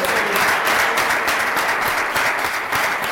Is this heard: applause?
yes